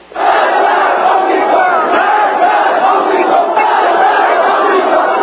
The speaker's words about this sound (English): Death to the Shah, they shouted. Death to the American Satan.